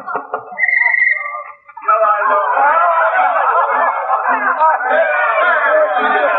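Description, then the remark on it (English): Loud, dense crowd chatter at a party, many overlapping voices babbling at once with bursts of laughter and snickers, beginning with a brief high tone before the noisy hubbub swells and holds steady. “Sounds like the old duffer's throwing a wing-ding in there.”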